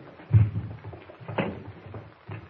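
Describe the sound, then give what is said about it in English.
A wooden chair scrapes and bumps as it is dragged up to a table, with a dull thud near the start and another shuffle a moment later. “All right, now, suppose you pull a chair up to the table here.”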